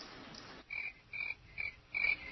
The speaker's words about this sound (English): And that was kind of the response she got, nothing but crickets.